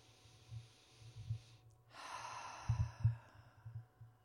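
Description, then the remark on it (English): Slow, deep breaths drawn in and pushed out by a seated person during meditation, airy, with a long soft exhale swelling midway through, set against a faint low rhythmic pulse underneath. “All right, and take some deep breaths in and out.”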